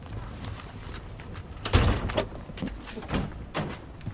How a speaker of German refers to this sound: In einer Wohnstraße in Kleinbasel gehen die Türen auf.